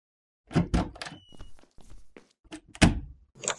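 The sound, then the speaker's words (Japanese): A series of solid thunks and knocks with scuffing footsteps, then a sharp bang like a door pushed shut, followed by a faint click and a short rattle as it is locked; the door is a stall in the girls' toilet of a club building. “大丈夫ですよ、鍵しましたし、それにここなら内緒話に最適です。”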